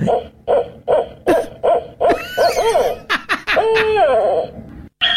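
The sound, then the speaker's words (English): An owl gives a quick run of rhythmic, mid-pitched hoots, then breaks into louder wavering, trilling calls and screechy notes that rise and fall, with no voices over them. “But I thought, let's have some beautiful owl sounds and the incredible noises that come out of their beaks.”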